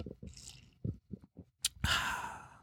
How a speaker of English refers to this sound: I gotta have some iced coffee here. I'll drop in a plug as my voice cracks, so I'm going to take a sip.